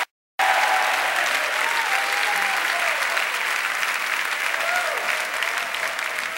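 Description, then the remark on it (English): An audience at a Monday night church service bursts into sustained, dense applause after a brief silence, clapping and shouting praise to God, the clapping steady and loud throughout, with faint shouted voices rising and falling beneath it. “Give God a clap and a shout of praise.”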